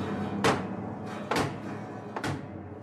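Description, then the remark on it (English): Three heavy, evenly spaced bangs of a sledgehammer striking the ends (cheeks) of a piano keyboard, with the keyboard cover and bottom panel removed, each a sharp crashing thud, with a dense ringing resonance lingering between the blows. “And then a couple of well-aimed bangs with a sledgehammer, one on one end of the cheek, which is the end of the keyboard, one on the other end of the keyboard.”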